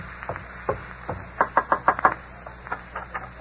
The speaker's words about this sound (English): Here's the house. You wait here while I go knock.